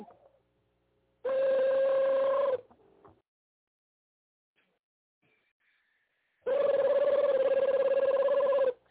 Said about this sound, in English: There's another damn phone. Hey, man, get your phone, man.